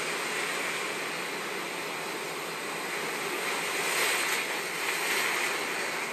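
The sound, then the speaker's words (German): Gentle waves of a calm sea rush steadily in a broad, continuous wash of surf, swelling slightly in places but never breaking into distinct crashes, with no voices present. “Höre dem Rauschen des Meeres zu.”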